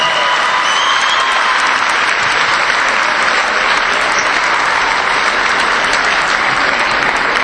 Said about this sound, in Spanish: Tampoco está con nosotros María López Aroca, pero le vamos a dar igual el aplauso, venga.